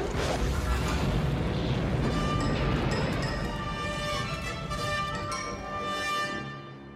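A loud explosion at Captain Solo's location, following energy weapons fire, bursts at the start, then a heavy rumbling roar sustains for several seconds with ringing tones drifting over it before it tapers off.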